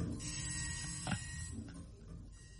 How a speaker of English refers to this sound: What's that noise? What noise? Is that the... Oh, no! She's only learned how to turn the printer on.